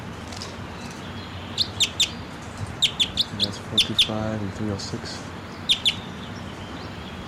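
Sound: wild bird calling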